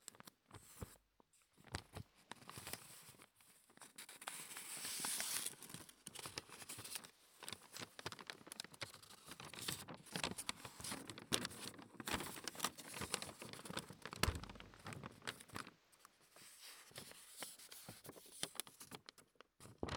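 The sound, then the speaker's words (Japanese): Thin paper, brought at a listener's request, crinkling and rustling into a Neumann microphone, a continuous dense crackle of small crisp snaps that swells and eases across the whole stretch, with no voices. “さてさてさて、まずはリクエスト通りの薄めの紙を持ってきました。”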